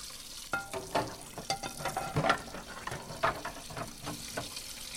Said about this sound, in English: Leo is currently in the scullery with another servant, washing dishes in Cull Manor.